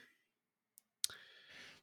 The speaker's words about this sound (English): Okay. I'm typing something up.